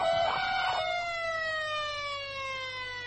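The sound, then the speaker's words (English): A loud bank security alarm siren wails on a single harmonic tone that slowly slides downward in pitch as it winds down, with a couple of brief noisy bursts at the start. It was set off after scanners detected someone hiding inside a security van. “Cut the audible alarms.”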